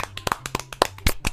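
crowd, applause

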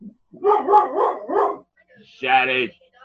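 animal, dog growling and barking

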